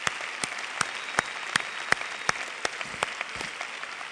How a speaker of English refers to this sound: So thank you very much. Let's give the military one more big hand.